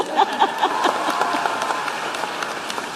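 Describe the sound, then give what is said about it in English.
A crowd applauds steadily during Ms. Harris's remarks on Joe Biden's accomplishments, many hands clapping in a dense, bright patter that stays fairly even in loudness for the whole three seconds. “In one term, he has already, yes, you may clap.”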